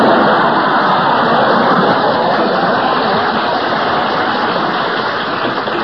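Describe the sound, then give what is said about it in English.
A studio audience breaks into sustained applause for Milton Berle on the program, a dense, steady wash of clapping that holds at full strength for several seconds with no voices over it. “To live to see the day Berle gets applause on this program.”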